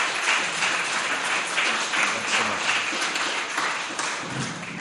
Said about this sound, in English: And there's some who are missing today, but can we also give them a round of applause?